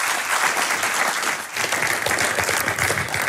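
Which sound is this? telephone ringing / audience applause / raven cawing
audience applause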